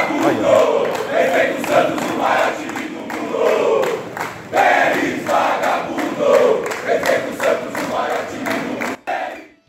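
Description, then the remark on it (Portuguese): A large crowd of organized football supporters (torcida uniformizada) chants loudly and continuously in the background, voices rising and falling in rhythmic waves, before the sound cuts off abruptly near the end. “Eu também não levo muito em conta a torcida uniformizada, Espímpolo, porque vai conforme a onda, entendeu?”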